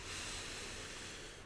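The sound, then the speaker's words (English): A single slow, drawn-out breath in during a guided relaxation exercise, heard as a soft, steady airy hiss that holds evenly for a moment and eases off at the end, with no talking. “Breathing in”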